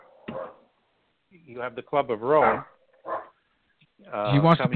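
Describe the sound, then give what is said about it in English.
A dog named Riley barks in a handful of short, irregular bursts, some drawn out into whiny, yelping tones, fairly loud against an otherwise quiet background. “The dog. What's the dog's name?”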